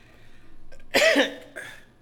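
A person coughs twice, a loud harsh hack followed shortly by a shorter, weaker one, with no talking.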